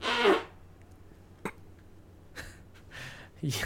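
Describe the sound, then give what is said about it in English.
Someone blows a short, buzzy raspberry with their mouth to mimic a fart, imitating a man in a movie who farts throughout it. A few brief breathy puffs and clicks follow in the quiet that comes after. “he was doing this the entire movie. he farted so much.”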